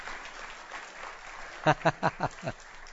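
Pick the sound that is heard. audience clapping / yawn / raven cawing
audience clapping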